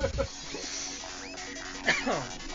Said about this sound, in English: Which this is a growl from Echo.